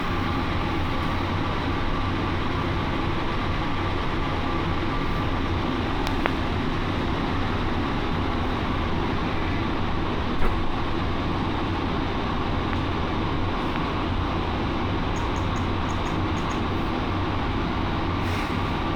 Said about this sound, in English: Please hold on. This train is departing for all terminals. Our next stop is Terminal 4. Next stop, Terminal 4.